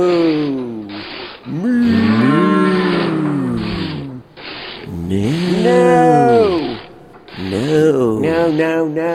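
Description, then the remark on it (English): A voice imitates a cow mooing in three loud, drawn-out calls, each swelling and bending in pitch, the last one shakier and broken into wavering pulses. “Kind of sounds like a cow mooing, doesn't it”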